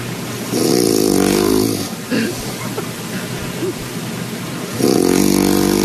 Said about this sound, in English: This is another Frogger snore. It might be the same one.